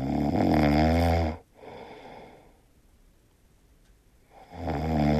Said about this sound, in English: Well, how do you snore, or how does your husband or wife sound when they snore is something we're discussing this morning.